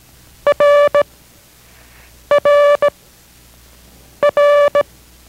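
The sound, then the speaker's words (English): Morse code letter R, from a Morse code lesson by station K6RAU in Merced, sounded three times, each a short-long-short pattern of loud, steady mid-pitched beeps, with pauses between repetitions and no voices. “This is R as in Roger.”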